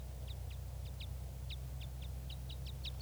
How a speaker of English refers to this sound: I'm at the net right now, and I can see a red crossbill, red male, up in the top of a tree, and it sounds like a type 5.